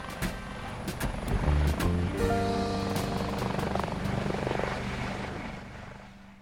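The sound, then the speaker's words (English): A blue helicopter's rotor thumps and whirs, its engine drone rising in pitch as it powers up, steady and loud before easing off slightly at the end. “Next to him, a pair of smart-looking German investors in sunglasses smiled for the cameras, prepared to follow Baldur inside the helicopter.”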